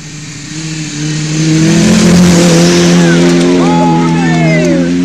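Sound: race car passing by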